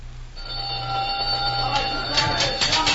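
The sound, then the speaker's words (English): A prison supper gong starts ringing after a brief silence, a loud, steady, sustained metallic tone with bright overtones that carries on without pause, with some rustling noise building toward the end. “The gong will sound off any minute.”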